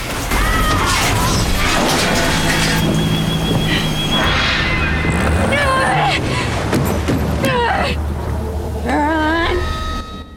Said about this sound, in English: She accelerates towards the gates through the pouring rain. The car hits the gates, which buckle but stay locked.